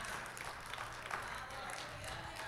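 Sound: audience clapping hands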